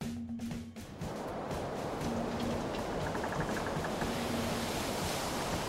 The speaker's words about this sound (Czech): Spěněné několikametrové vlny házely s dřevěnou bárkou nahoru a dolů.